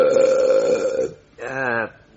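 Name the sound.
burp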